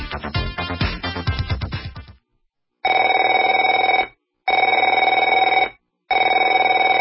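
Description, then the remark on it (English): A burst of music gives way to a telephone ringing in three loud, even rings separated by short pauses, clear with no voices. “Afraid to answer it?”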